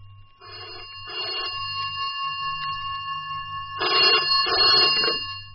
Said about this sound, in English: Was that the phone? Listen.